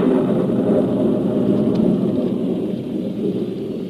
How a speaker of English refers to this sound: Soon afterwards, it began to rain. Then a cloudburst hit.